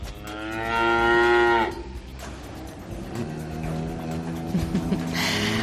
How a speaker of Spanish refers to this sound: Ahí las tienes, las vacas. Las vacas.